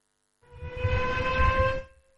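A loud air-raid style siren, sounding from number 24 Calle Garibay in the centre of Donostia, sounds a steady, harmonic tone for about a second and a half over a low rumble, then cuts off. No one speaks.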